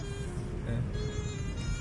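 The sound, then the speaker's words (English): A city bus engine rumbles steadily, a deep low drone with a faint tonal hum, as the bus goes by on a street in Nogales, with no voices. “And here this bus is the city bus.”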